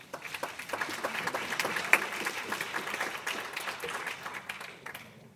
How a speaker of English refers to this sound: If you could give a round of applause